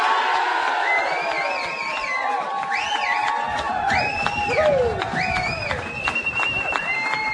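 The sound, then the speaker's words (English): A large crowd cheers and shouts steadily in the hall at the Lagoon in Terman, with whoops, whistles and rising calls cutting through a dense, continuous roar of voices. “And as you can gather from the noise in the hall here in the Lagoon, we're not here on our own, certainly a large crowd, and they may be getting, some of them getting weary-eyed looking and a little blinky looking, but they're all still alive”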